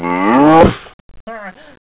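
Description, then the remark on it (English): A cow moos loudly, one long drawn-out call that drops in pitch, then a brief pause and a shorter, quieter moo. “That cow stepped on my foot!”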